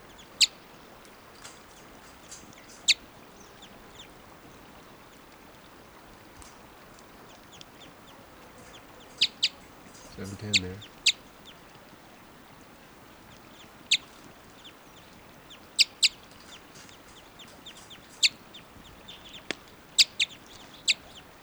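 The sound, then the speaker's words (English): Wild birds give short, sharp, high type 2 calls at irregular intervals, about a dozen scattered over a quiet background, with one brief low rumbling burst partway through. “Wild birds are type 2 at 7:10.”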